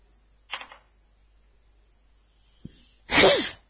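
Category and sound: human body sound, sneeze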